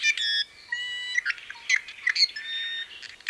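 Calls of the iiwi, a Hawaiian honeycreeper: a continuous run of squeaky, creaking notes and nasal whistles, rising and breaking in quick bursts, with no voices present.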